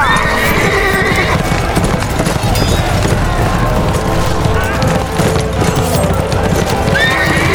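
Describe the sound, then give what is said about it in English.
A pony carrying two riders gallops hard, urged on by heels banging against its flanks, its hooves pounding in a loud, steady rush, with a shrill whinny ringing out near the start and again at the very end. “Chester swung up behind her and reached around her to take hold of the reins, banging his heels against the pony's flanks.”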